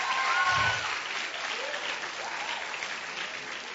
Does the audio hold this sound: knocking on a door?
no